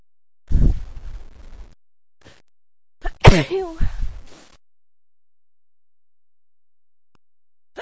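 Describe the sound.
Two loud sneezes a couple of seconds apart, the second a sharp voiced burst with a trailing gasp, followed by silence; intense sneezing of unknown cause in autumn.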